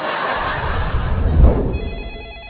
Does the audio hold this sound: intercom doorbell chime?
no